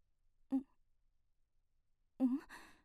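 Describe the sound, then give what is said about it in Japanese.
Heavy, ragged breathing: a short voiced exhale, a pause of silence, then a longer, shuddering breath that trails off like a strained sigh. “なんだか荒い息遣いが。”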